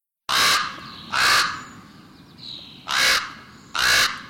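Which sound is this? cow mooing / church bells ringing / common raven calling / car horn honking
common raven calling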